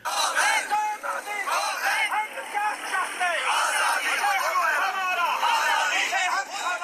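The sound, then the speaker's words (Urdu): A large protest crowd wearing black armbands and carrying black flags marches through the streets of Muzaffarabad, Pakistani Kashmir, on India's Independence Day, chanting and shouting slogans for Kashmir's independence in unison, many voices blending into a loud, continuous roar that stays steady throughout, with no quiet breaks. “بھارت کے یوم آزادی کے موقع پر یوم سیاہ منانے کے لیے مظاہرین نے بازوں پر سیاہ پٹیاں اور سیاہ جھنڈے اٹھا کر سڑکوں پر مارچ کیا اور کشمیر کی آزادی کے حق میں نعرے لگائے.”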